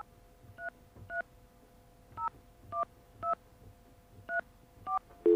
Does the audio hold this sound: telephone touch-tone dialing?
yes